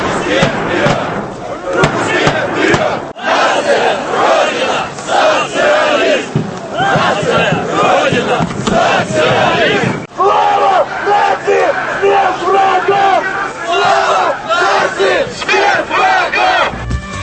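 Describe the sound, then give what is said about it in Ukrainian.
A large crowd at a Russian March street rally in Russia chants slogans in unison, loud and rhythmic, with many voices shouting together in repeated bursts and a brief break around the middle before the chanting resumes. “Такі вигуки лунали сьогодні в російських містах.”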